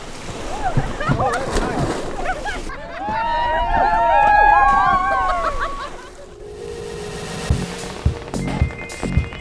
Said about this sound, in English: The group is on their way to the Long Island Sound this weekend. But before getting back into their kayaks, one quick swim in the river they love.